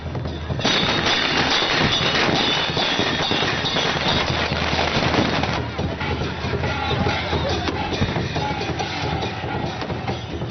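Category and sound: sound effect, firecrackers exploding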